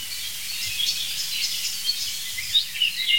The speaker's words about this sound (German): Und auf jeden Fall jetzt eine sich aufregende Amsel, die wirklich empört ist, muss ich sagen.